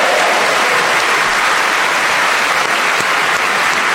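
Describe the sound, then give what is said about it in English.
Sustained audience applause for the four game players Paul Merton, Tony Hawks, Sue Perkins and Neil Malarkey fills the room. It is a dense, steady wash of many hands clapping at once, loud throughout, with no voices rising above it. “That round of applause, I'm sure, was for all four of them, and I only have to thank them for being so magnificent in this game.”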